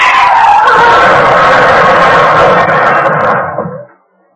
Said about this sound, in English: Boy, some wreck. That lousy left front tire of mine. I knew it was thin, but I didn't think she'd go like that.